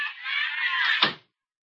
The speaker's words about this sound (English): Just hang on to the phone a minute while I close the door here